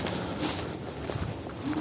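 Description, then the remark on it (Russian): Soft, muffled footsteps swish and crunch through wet grass at a steady walking pace, set against a constant hissy background with no speech. “Сейчас я иду по мокрой траве.”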